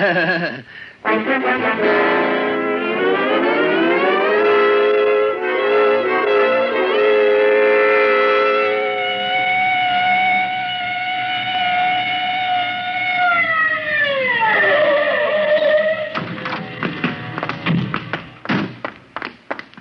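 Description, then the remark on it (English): A loud police siren wails steadily for several seconds, then winds down in a long falling moan, followed by scattered thumps and knocks. “All right, Otis. You can use the siren.”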